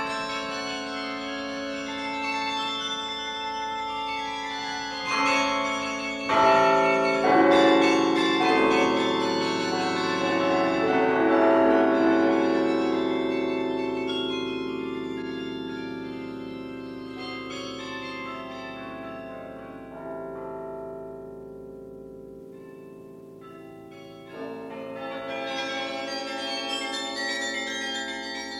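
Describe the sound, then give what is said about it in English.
The carillon bells of Dordrecht chime a steady, ringing melody, their overlapping tones hanging and blending together. After a brief lull near the end, the bells strike up again, loud and resonant with no voices. “These are the most joyous bells in Europe.”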